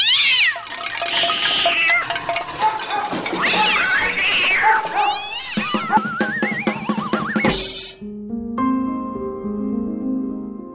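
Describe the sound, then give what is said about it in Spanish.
A chorus of cats meowing loudly and insistently, several wavering cries overlapping for about seven seconds, then cut off by a sudden burst of noise and a few steady tones. “Y ese día no se escucha música, se escucha ruido. Tapado por maullidos.”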